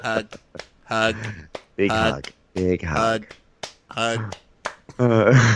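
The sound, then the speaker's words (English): A series of sharp, slapping pats of a hand clapping a woman's back while hugging her, given as 18 playful 'hug lashes', coming at an uneven rhythm between bursts of vocal sounds and voices. “Clapping her back while she hugs her.”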